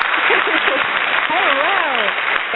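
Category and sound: crowd, applause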